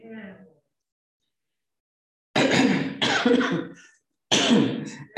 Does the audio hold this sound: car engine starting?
no